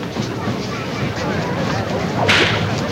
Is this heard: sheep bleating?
no